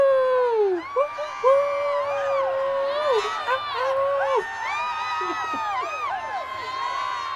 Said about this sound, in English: Oh, here we go. And let's cheer.